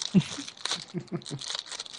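A zipper being unzipped: a raspy, crinkly ratcheting that runs for about two seconds in a series of short, uneven bursts with a bright, hissy edge and no talking.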